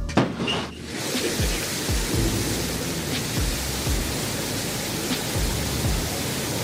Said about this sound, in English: We have lift off. The Shepherd's cleared the tower. And New Shepherd has cleared the tower on our way to space with our first human crew.